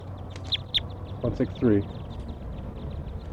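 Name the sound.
captured bird calling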